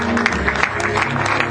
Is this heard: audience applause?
yes